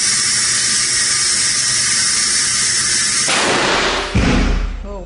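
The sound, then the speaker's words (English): In a Boston University lab, a steady high-pitched mechanical whine builds for several seconds as a 27-foot blast tube reaches about 25, then breaks into a rushing hiss and a sudden deep, loud blast, equivalent to an IED explosion, hitting a model, with a rumbling tail. “this 27-foot blast tube where a mouse, and in this demonstration, a model, is exposed to an explosion equivalent to the IEDs used in Iraq and Afghanistan.”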